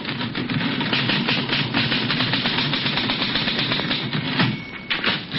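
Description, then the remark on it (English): Rapid, continuous typewriter clatter: dense mechanical keystrokes rattling along steadily for several seconds, fairly loud, with a low hum beneath and no voices, as a newspaper editor types in deep concentration in the living room of his house. “Tom himself is bent over his typewriter in deep concentration”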